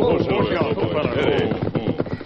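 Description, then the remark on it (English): Horses' hooves clop in a quick, steady rhythm as the Lone Ranger, Tonto and Dan Reed, riding north toward the Bighorn country, slow and rein up their horses on a hillside trail, the clatter fairly loud over a dense, busy background. “The Lone Ranger, Tonto, and Dan Reed, riding north toward the Bighorn country, reined up their horses on a hillside trail.”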